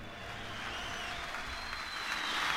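Steady applause from a crowd, a dense crackling wash of clapping that builds slightly toward the end, with a faint sustained tone from the track's tail lingering underneath.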